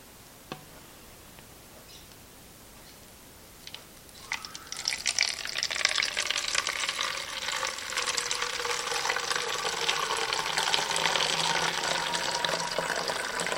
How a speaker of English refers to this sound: Mix it up. Now, we'll pour that into the bottle I labeled fixer.